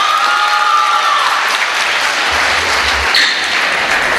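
A crowd applauds steadily, dense clapping filling the whole stretch at an even loudness, with a faint tonal whistle early on and no one speaking. The audience is at the poetry session of a university's Muthamizh festival, welcoming a poet to the stage.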